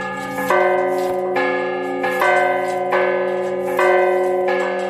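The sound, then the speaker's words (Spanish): The church bells of the Church of San Martín in Salamanca, Spain, peal loudly at noon, with repeated strikes roughly every second overlapping into a rich, sustained ringing drone. No voices are present. “Así es como suenan a las 12 del mediodía las campanas de la iglesia de San Martín en Salamanca.”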